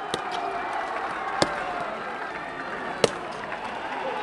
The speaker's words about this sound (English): As the crowd bellows, "Long live Pakistan," black-clad Pakistani rangers stomp closer and closer to their Indian counterparts, heels clicking.